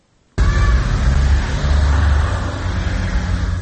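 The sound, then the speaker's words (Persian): After a brief near-silence, loud traffic noise begins abruptly: official service cars of high-ranking Tajikistan government officials driving out of their compound in the First Sovetsky district of Dushanbe in the early morning, with a steady low engine rumble and road roar, continuous, with no one speaking. “ماشین های خدمتی منصبداران سطح بالای حکومت تاجیکستان است که صبح بر وقت از قرارگاه خود از محله یکم سویتسکی شهر دوشنبه خارج می شوند.”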